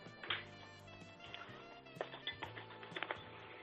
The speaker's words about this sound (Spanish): ¿Placa pecho izquierdo? Pues claro. Uh-huh. Dale un par de toquecitos a la placa, hombre.